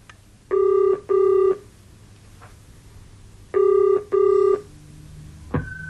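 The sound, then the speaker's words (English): A telephone rings in the classic double-burst pattern, two paired rings separated by a pause, loud, ending with a brief click as if the receiver is picked up. No one speaks. “Would you hand me the phone extension?”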